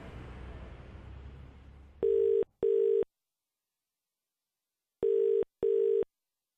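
A telephone ringing tone sounds down the line in two double-pulse rings about three seconds apart, clear and steady, after a short stretch of faint rushing line noise, as a call is placed to a mudlarker. No one speaks.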